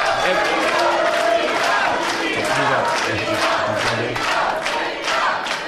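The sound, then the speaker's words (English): A loud, dense crowd of fans in a live show's audience yelling and cheering together, a continuous roar of many voices with chanted shouts rising and falling throughout. “I think they're yelling that because they're all fans.”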